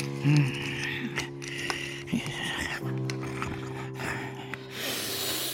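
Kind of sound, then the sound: human body sound, heavy snorting breath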